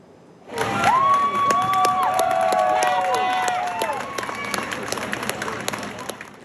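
A crowd bursts into sustained applause and cheering for firefighters who rescued a woman from the fourth floor of a collapsed apartment building, with dense clapping and several high, drawn-out whoops and shouts rising over it before the noise gradually eases.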